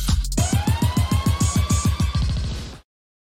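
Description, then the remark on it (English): A siren sound effect in a show's new intro wails steadily upward in pitch over a fast, rhythmic low thumping, loud, then cuts off abruptly after about three seconds. “My son loved that you laugh right when the siren goes off.”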